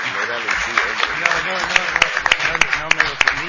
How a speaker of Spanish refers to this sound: Bueno, muy bien, quiero agradecer. Un aplauso aquí para los panelistas.